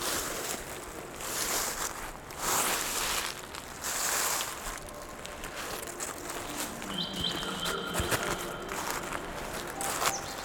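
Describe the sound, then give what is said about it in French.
Dry autumn leaves crunch and crackle underfoot in slow, irregular steps, a papery, muffled rustle that swells in bursts, with faint thin high tones appearing toward the end. “Un peu mat, un peu crépitant.”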